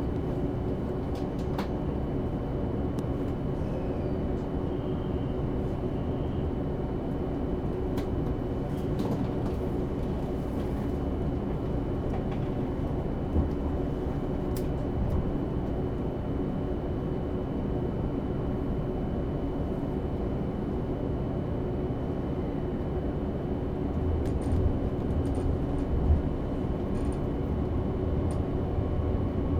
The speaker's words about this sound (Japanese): まもなく開車いたします。閉まるドアにご注意ください。